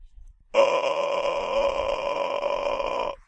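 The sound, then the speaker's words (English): The Pokemon Charizard, its tail flame only a dim ember, attempts a roar: a hoarse, raspy cry, one sustained, gravelly sound lasting a few seconds at steady loudness, then cutting off abruptly. “He's trying to roar, but it only comes out as hoarse, raspy noises from out of a horror movie.”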